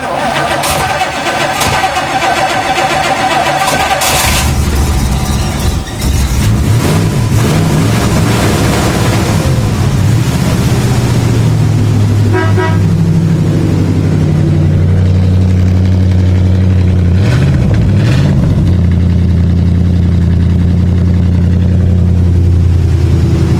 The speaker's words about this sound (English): One cool sounding car. Yeah. You can hear this thing coming down the block. This is the Studebaker Avanti, which was designed by Raymond Loewy and his team.